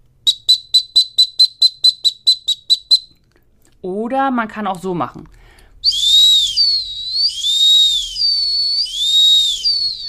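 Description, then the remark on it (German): A dog whistle gives a rapid run of about ten short, shrill pips, then a man speaks briefly before three long, warbling whistle tones rise and fall, loud, the three tones used as a search whistle signal for a dog. “Das sind so die drei Töne, die ich so ja, geläufig kenne für den kleinen Suchenpfiff.”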